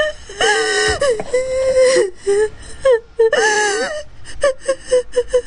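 person crying and whimpering

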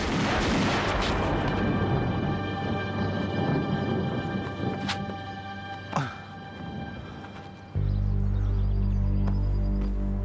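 gunshots

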